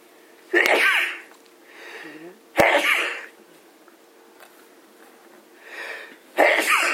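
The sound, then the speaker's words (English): Three loud sneezes in a row, each preceded by a softer breathy intake, spaced a couple of seconds apart with no talking around them. “Excuse me. Bless you.”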